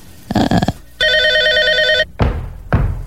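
A single loud burst of a telephone's bell ring, a bright, rapidly trilling tone lasting about a second, framed by dull thumps and knocks before and after.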